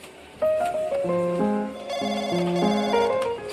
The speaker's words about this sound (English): The phone rings behind the counter, and I give it an anxious glance.